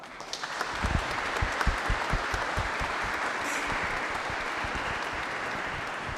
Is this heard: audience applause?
yes